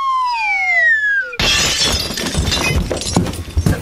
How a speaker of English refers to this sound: Or step in the broken glass from the lovely vase that sat on the table.